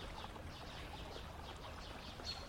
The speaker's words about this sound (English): Listen to the river.